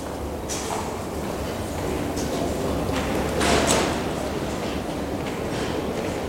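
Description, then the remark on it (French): A busy metro station with a steady rumble of trains and crowd noise, punctuated by the hiss and slide of doors opening and closing. “Fois dehors, il suit la rue et s'engouffre dans une entrée de métro.”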